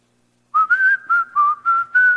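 A person whistles a short melody of about six clear, steady notes, close and fairly loud, beginning after a brief silence with no talking.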